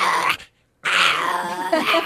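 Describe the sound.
A person imitates a long-haired Chihuahua with two bursts of high, whiny yipping and growling, fairly loud, separated by a brief silence.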